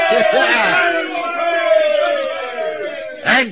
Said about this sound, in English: Yes, we're saved. We're saved. Give a cheer, lads. We're saved.